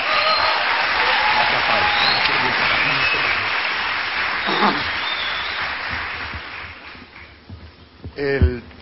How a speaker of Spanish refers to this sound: Se llama Pablo Deiros, denle un fuertísimo aplauso.